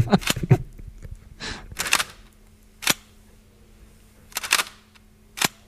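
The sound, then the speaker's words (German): A Sinar large-format camera shutter fires repeatedly, giving sharp, crisp mechanical clicks at irregular intervals, some paired, with a softer swishing sound in between and a faint hum underneath. “Das ist eine Sina. Sina Großformatkamera.”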